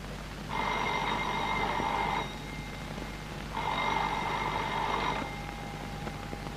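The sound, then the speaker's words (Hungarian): A telephone rings twice in a hotel, each long electronic trill lasting about a second and a half with a short pause between, clear over a low background hum. “Kérem, azonnal felszólok az office-be.”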